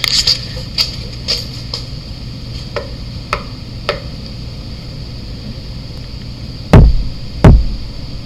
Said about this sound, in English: In that audio, you heard two very distinct thumps at the end. I didn't hear those when I was knocking on the column. You'll hear my three small knocks, and then we get a good response.